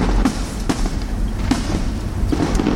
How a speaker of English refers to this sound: All that ordnance you can hear there is the annual Crystal Palace firework display. Fantastic.